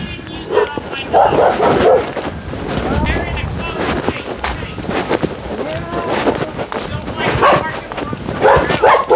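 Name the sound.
dog barking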